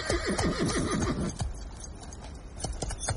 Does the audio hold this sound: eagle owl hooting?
no